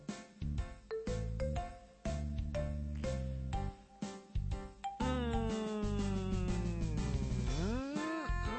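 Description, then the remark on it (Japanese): A melodic outgoing call ringing tone plays alone, clear: a run of short stepped electronic notes, then a long sustained tone that dips and rises in pitch, as a phone call is placed to a guest. “はい。現在呼び出し中です。”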